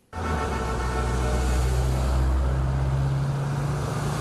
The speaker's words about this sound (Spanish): Más de 200 coches clásicos tomaron la famosa Avenida del Malecón de La Habana en una colorida competencia que mostró el patrimonio automovilístico de la isla.